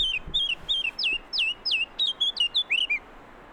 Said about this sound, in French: Ça, c'est ce qu'on appelle la fauvette à tête noire. Si je l'énerve un peu, elle va finir par s'approcher, voir qui c'est qui chante sur son territoire.